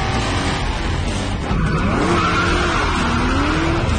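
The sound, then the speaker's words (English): A car skids hard around a right turn, its tires squealing in rising and falling pitched whines over a steady, loud engine rumble, with no talking. “Luke skids around.”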